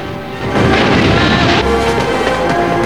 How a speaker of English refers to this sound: As Mr. Christian squints up at the mast, the Bounty lurches and crashes through more stormy, foaming waves.